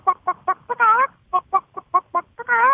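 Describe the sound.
A person imitates a hen cackling: a quick run of clipped, rhythmic clucks rising into a drawn-out squawk, repeated twice, loud with no other sounds.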